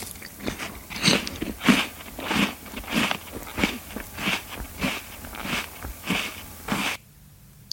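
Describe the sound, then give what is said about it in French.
Footsteps crunching through a carpet of dry leaves in the woods at a steady walking pace, about a dozen crisp, rustling steps, before stopping abruptly into near silence. “La marche dans les bois sur un tapis de feuilles.”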